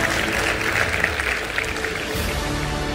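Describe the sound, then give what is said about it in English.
An audience at a talk on leadership claps steadily, a dense, even wash of many hands with no pauses or swells and no one speaking over it. “You can clap for that, because let's go.”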